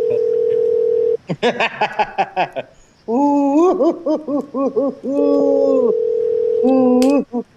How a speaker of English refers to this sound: Are you sure that wasn't the fax machine line, HBB?